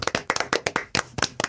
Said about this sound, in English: Round of applause, guys.